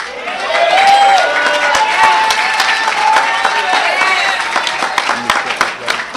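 An audience at an addiction recovery meeting applauds the first speaker after his share, a dense wash of clapping with shouts and cheers mixed in, staying loud for several seconds before thinning slightly toward the end.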